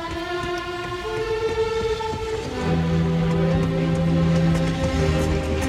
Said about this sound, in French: Devant les grilles de la gare de l'Est à Paris, plusieurs milliers de personnes se pressent pour assister à l'arrivée des premiers trains venus d'Allemagne.